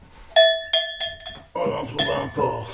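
A small bell rings out four times in quick succession with a bright, metallic tone, followed by a busier, louder stretch of jumbled sound in which the ringing carries on more faintly.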